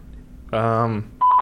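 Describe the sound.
A steady buzzing telephone tone lasting about half a second as a call is placed from a studio, followed after a brief pause by a shorter, higher electronic beep as the call connects to voicemail.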